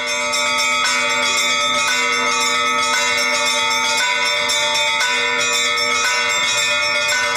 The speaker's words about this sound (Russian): Иначе говоря, большой колокол создает ритм. На него накладывается рисунок колоколов среднего размера, а все это покрывает трель маленьких.